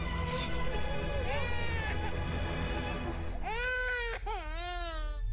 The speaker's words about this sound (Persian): بپر خواهش میکنم گریه نکن. ببخش فقط گریه نکن باشه.